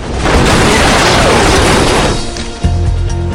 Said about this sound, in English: fires into a pursuing car as it draws up alongside. It crashes and overturns.